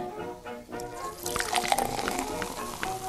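Water pours steadily from a watering can to water flowers, a continuous splashing trickle that swells after a brief quieter start and holds at a moderate level throughout.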